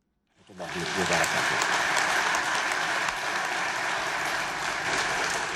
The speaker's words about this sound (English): Jordan's King Abdullah II was applauded after he delivered the keynote address to fellow Arab heads of state at the 28th Arab League summit in Amman.